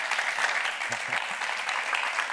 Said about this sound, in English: If we could just close out the evening with a last round of applause for him and for all of you.